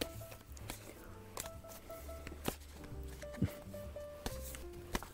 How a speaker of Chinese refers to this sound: 那我们先来请老师洗牌，你要喊停好不好？